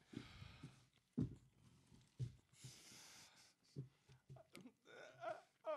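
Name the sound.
burps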